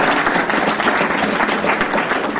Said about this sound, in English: We'll give a round of applause for